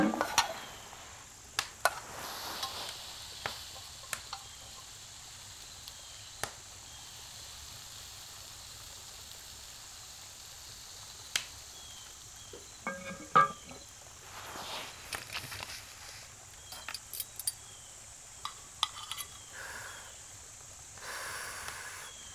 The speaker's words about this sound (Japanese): よし、そろそろいいかも。お皿貸して、よそうよ。